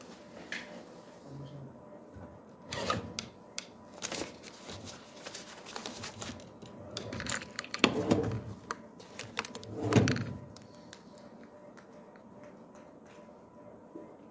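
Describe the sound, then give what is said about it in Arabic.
A marker squeaks and scratches across a whiteboard in quick, irregular strokes during a logic lesson, with a few louder swipes partway through. There is no talking. “اكتب الصبورة.”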